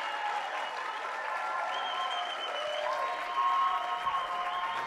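A crowd applauds steadily for about five seconds, a dense, even patter of many clapping hands with no voices, while faint sustained tones ring underneath.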